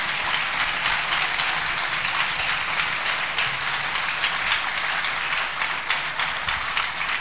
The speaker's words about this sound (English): Acclamons notre Seigneur. Let's clap the Lord Jesus.